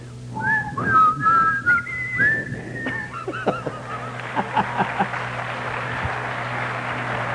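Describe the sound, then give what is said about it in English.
A person whistles the slow hymn melody 'The Lord Is My Shepherd', clear, for about three seconds before it fades into a hissy background with scattered knocks and a steady low hum. “I've always wanted him to whistle that tune, whatever it was.”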